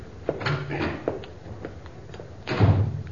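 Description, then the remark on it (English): A door thuds shut with a low, solid knock near the end as a visitor leaves, preceded by scuffing footsteps and handling noises on a wooden floor, moderately loud. “I'll show you to the door. I can find it”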